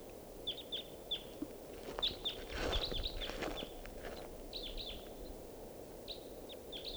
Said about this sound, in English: Wild Bird. Looks like a male. Song phrase.